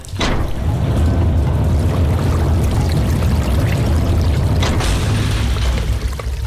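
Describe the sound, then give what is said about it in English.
Loud, steady rush of water pouring and churning under a heavy sector through a 6-inch gap as the water level drops, with a deep rumbling low end and bubbling texture, continuous for the whole stretch, no voices. “The water started to drop, bubbling under the heavy sector, through the 6-inch gap”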